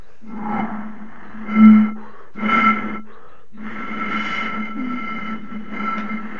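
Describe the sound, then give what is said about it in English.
A breathy, hollow hoot from blowing across a glass bottle, a low steady tone held in three long blows with brief gaps, swelling louder twice near the start, with no talking. “Dude, guys, I've got a glass bottle here. I can just blow on it to make a sound.”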